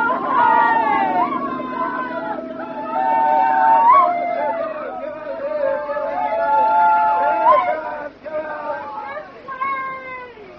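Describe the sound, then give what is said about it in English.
Several women in a boat on the waves yell together to be seen by a searchlight sweeping across the water, in long, overlapping high-pitched shouts, loud and sustained for about eight seconds before trailing off into a few fainter cries. “All together, girls! Yell!”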